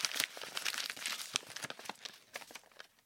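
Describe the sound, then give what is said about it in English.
A square of creased wrapping paper filled with dense Chinese characters being unfolded, a dense run of crisp crinkles and rustles that fade toward the end, with no voices. “He got up, jumped with feline grace into my lap, and proceeded to unfold himself.”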